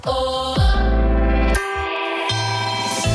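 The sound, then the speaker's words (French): The Europe 1 radio station time chime marking 11 p.m.: a short sequence of four loud, sustained, ringing tones, each note shifting pitch and lingering with a reverberant tail, with no talking. “Et au carillon d'Europe 1, il est 23h”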